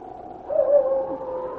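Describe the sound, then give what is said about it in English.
A wolf howls at night in one long, steady, wavering note that swells partway through and then holds, clear, with no voices or other sounds around it. “King heard the sharp howls of a wolf, and then a second wolf could be heard.”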